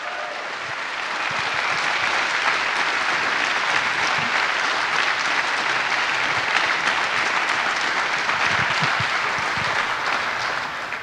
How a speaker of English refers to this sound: So, this were our teams, and even if you thanked all of them independently, I would please ask for a big round of applause for all our infrastructure teams and all the other angels at SHA 2017.